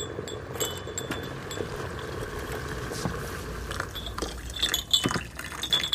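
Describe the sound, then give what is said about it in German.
Freshly boiled water for tea is poured with a steady, soft rushing sound, followed by a few light, bright clinks of cups or glass near the end. No one speaks. “Ich gieße uns ein.”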